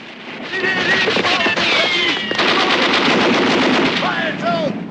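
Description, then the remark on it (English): Rapid, sustained bursts of machine-gun fire crackle loudly and continuously at the ship Maxim Gorky, with sharp repeated impacts blending into a dense roar, while shouting voices and whistling tones rise and fall as the crew works to put out the flames. “Under heavy fire, the Maxim Gorky crew works to put out the flames.”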